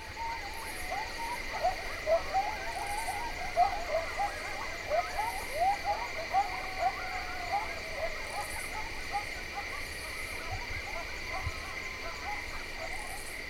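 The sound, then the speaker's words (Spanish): A steady nighttime insect chorus drones on in several continuous high-pitched layers, while coyotes yip, bark and howl over it in irregular rising and falling bursts from the Ponderosa pines to the north. No one speaks. “De repente, los coyotes se unen al coro nocturno de insectos, ladrando y aullando en un crescendo desde los pinos Ponderosa al norte.”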